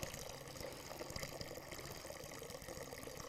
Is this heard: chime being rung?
no